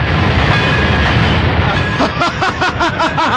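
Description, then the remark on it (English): A loud New York subway train rumbles in, a broad roaring clatter giving way to rhythmic rising tones and rapid clacks on the tracks as it approaches. “Well, I hear one rapidly approaching.”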